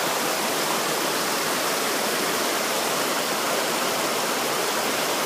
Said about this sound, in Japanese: たまにね横に川が流れているのでその音をお届けしてるんですが、今日はこの合計の川のせせらぎというよりもうちょっと大きな音なんですけど、この音をほんのちょっとお聞きの皆様にお聞かせしたくて録音しています。